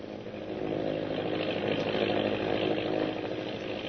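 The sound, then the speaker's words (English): A steady, loud propeller-engine drone of a Navy patrol plane in flight, heading to meet a destroyer, hums without a break, a rough buzzing roar with strong low harmonics and no voices. “the Navy patrol plane is winging its way to a meeting with the destroyer, which is still hunting the disabled submarine, now safe in the lagoon on Thorson's Island.”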